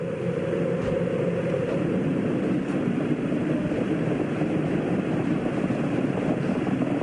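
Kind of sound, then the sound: vehicle, space shuttle engines roaring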